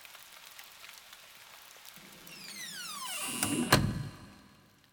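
Steady rain patters late at night while a sliding door grinds and rumbles open partway through, ending with a solid knock before the rain continues softly on its own.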